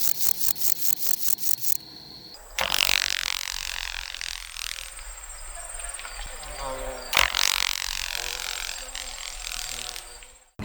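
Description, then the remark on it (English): A grasshopper's wings give two sharp, crackling snapping bursts several seconds apart, each trailing into a rustling buzz. Before them comes a short run of rapid, evenly spaced rasping chirps made by the grasshopper rubbing its back legs. “The first, the sound of their back legs rubbing, and the second, the sound of their wings snapping.”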